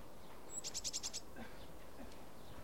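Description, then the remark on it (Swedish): A bird sings a quick run of about six bright, evenly spaced chirping notes in allotment gardens by Årstaviken, then falls quiet over a soft, steady outdoor background with faint sounds. “Och med den här fågelsången så avslutar vi med våra ögon för den här gången nere vid Årstaviken.”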